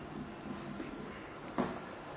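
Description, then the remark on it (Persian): A chair is brought to the front and set down with a short wooden knock and scrape, heard once over a low hum, with faint shuffling before it and no one talking. “یه دونه این صندلی‌ها رو هم به زحمت بیارید جلوی که من اینا رو بزنم.”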